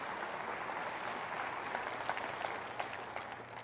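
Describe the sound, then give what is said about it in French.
A church audience applauding in advance during a French-language sermon: a steady, dense wash of many hands clapping at an even level, with a few sharper claps standing out and no one speaking over it. “Et applaudissent à l'avance, car heureux celui qui a faim et soif, il sera rassasié.”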